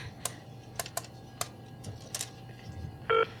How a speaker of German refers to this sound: So, nimm das Telefon, ruf Gustav an.